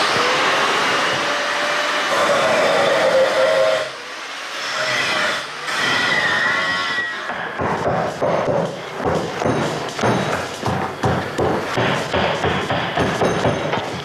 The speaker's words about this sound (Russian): Я продемонстрирую, как, например, звучит металл, который режется так называемой флекс-машиной. Это грубый, такой брутальный звук, но мне этот звук родственен, я люблю этот звук.